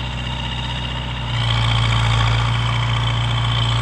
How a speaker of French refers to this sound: Il y a un moteur bruyant, des grandes roues et on en voit dans les champs. Un tracteur.